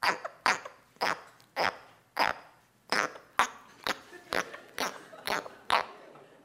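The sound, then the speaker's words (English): An Australian tree frog calls with about a dozen short, raspy chirps in a steady, evenly spaced rhythm, each a sharp burst with a brief pause between. No voices are heard. “Is it an Australian tree frog? Sure is, yeah.”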